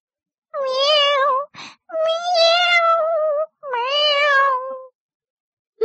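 A cat in a tree meows three times in long, drawn-out, wavering cries, loud, separated by short pauses, with a brief rustling noise between the first two calls.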